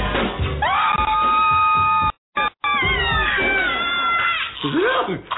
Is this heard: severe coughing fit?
no